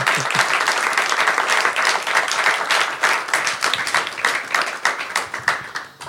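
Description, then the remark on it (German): An audience applauds two guests steadily, dense overlapping claps at fairly high volume for about six seconds, gradually thinning and fading toward the end. No one speaks. “Können wir mal einen Applaus für die zwei haben vielleicht?”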